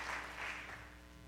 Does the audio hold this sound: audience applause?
yes